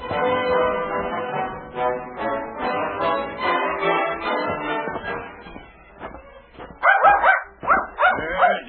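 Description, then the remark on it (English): A small dog whimpers and whines in drawn-out, high cries for several seconds, then breaks into a burst of loud, sharp yipping barks. “Long way for such a little dog to go.”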